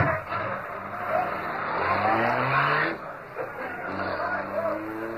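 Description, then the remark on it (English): A car engine roars and revs upward in rising pulls as the vehicle speeds off, with a loud, steady rush of road noise and a hint of tire squeal. “Give it the gas, Cato.”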